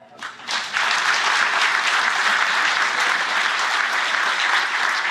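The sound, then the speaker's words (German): A crowd breaks into applause at the host's request for everyone to clap as a comparison; it swells quickly after a brief start, then holds as a steady, dense wash of many hands clapping with no individual claps standing out. “kann nur mal im Vergleich einmal alle klatschen?”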